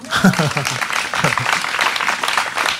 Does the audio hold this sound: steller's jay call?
no